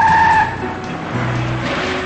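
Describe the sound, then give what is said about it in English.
A deputy's car pulls up with a brief, piercing tire squeal at the start, then settles into a low idling engine rumble, fairly loud, with no voices. “He waves, and the deputy pulls up.”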